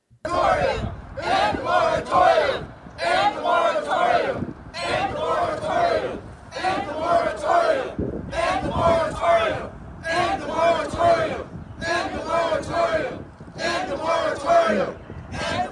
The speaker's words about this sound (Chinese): 是我们听得见哈、这些到场的抗议的人群都在高声大喊着说要结束这个禁止驱逐令啊。